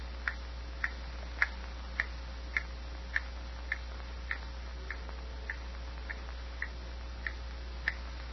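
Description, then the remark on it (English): An old clock ticks steadily and sharply, with about fourteen crisp, evenly spaced, hammer-like ticks standing out over a faint low hum and no voices around them, as a woman undresses and gets into bed. “Dreary silence, broken only by the hammer-like ticks of the old clock as Rose undresses and gets into bed.”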